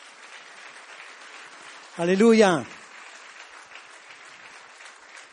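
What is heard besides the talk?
audience applauding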